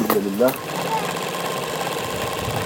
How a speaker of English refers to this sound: She hopes to establish herself here as a seamstress with a rented sewing machine.